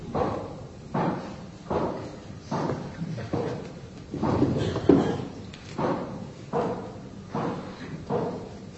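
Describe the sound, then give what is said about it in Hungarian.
A door is rattled and banged over and over in a steady rhythm, about a dozen loud thumps, as if someone keeps yanking at it without getting it open. No voices. “Én sem bírom nyitni az ajtót! Ajtó csukva”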